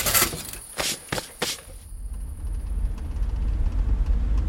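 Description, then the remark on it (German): A car door thuds shut a few times, then a steady low engine rumble takes over as the car drives along, with no one speaking. “Wenige Minuten später sitzen sie wieder im Auto.”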